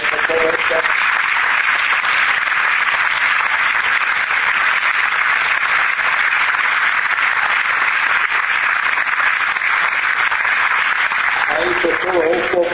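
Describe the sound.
Sustained audience applause, a dense steady wash of many hands clapping at an even, loud level for the whole stretch, with a faint voice at the very start and end.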